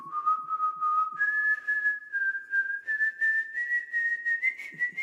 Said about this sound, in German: Naja, so ganz richtig hat der Star die Melodie nicht getroffen. G muss es sein, nicht Gis, denkt Mozart. Aber wer wird denn bitte so kritisch sein? Bei einem Vogel. Und seine Version ist durchaus originell.